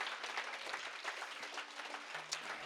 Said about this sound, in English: And if you're thankful that he brought you back, would you give him a hand clap if you're so thankful?